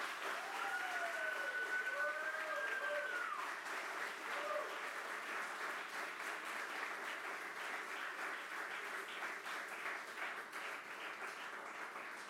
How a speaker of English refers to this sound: Now, let's commit to do this by a round of applause.